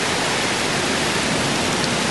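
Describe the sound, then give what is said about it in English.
Heavy rain pours down outdoors in a dense, unbroken hiss that stays loud and even throughout, with no voices and no pauses in the downpour. “It is raining like a motherfucker. Let's see if we can get some nice ambient rain noise.”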